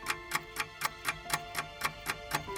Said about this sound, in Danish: når uret tikker og presset er på